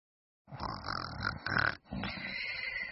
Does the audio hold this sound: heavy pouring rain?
no